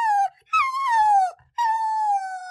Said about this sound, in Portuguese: Ah, eu tento dar a quantidade recomendada por dia, mas minha cachorrinha sempre quer mais, fica chorando, bate no potinho.